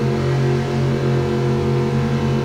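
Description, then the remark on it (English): A 1937 Ford five-window hot rod's 385-cubic-inch Chevrolet V8 engine runs loud and steady at a racetrack, a deep rumbling drone with strong low harmonics that holds an even pitch for the whole stretch, with no voices over it. “385 cubic inches of Chevrolet power for the 37 five-window Ford.”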